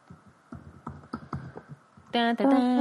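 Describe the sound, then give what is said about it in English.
A burst of irregular clicking keystrokes on a computer keyboard for about two seconds, clear, followed by a loud, sustained buzzy electronic tone that cuts in abruptly. “We should have a typing, some kind of sound.”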